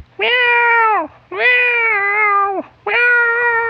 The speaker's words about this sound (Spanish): maullando con desesperación, pues ya quería... beber su leche.